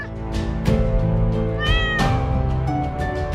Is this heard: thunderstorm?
no